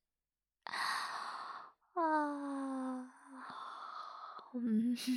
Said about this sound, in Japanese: あくびうつった。なんでだろうね。うつっちゃうよね、これ。そっちもうつった？